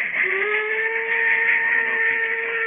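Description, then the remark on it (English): A steam locomotive whistle blows in one long, loud, steady note, its several tones layered over a constant rush of hissing steam, with no voices. “Climb aboard, Harry, and get shoveling coal. I want top pressure.”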